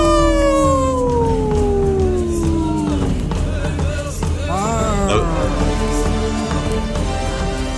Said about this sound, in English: I don't know if you caught that, Gina, but Wendy put in a bear roar in the end of that that intro. So we're not only protecting the wolves, but the bears.